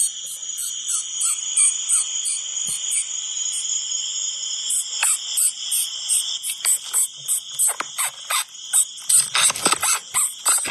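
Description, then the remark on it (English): A small bullet ant, smaller than the lavalier microphone recording it, squeaks as it walks: a steady train of tiny, very high-pitched chirps, with scratchy rustles and clicks building toward the end as it crawls up onto the lavalier microphone. “So they squeak when they walk.”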